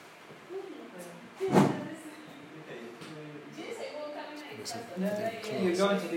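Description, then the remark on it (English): A door is pushed shut with a single solid thud partway through, amid low background noise and faint murmuring voices. “we might shut the door.”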